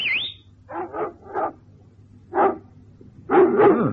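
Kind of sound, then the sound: animal, dogs barking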